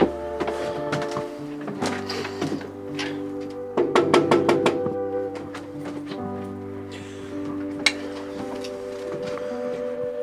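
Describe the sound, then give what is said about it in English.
Knocking on the door of a house in Massachusetts: a quick run of about six sharp knocks, evenly spaced, sounding over steady sustained musical tones that continue throughout. “Shall we knock on the door?”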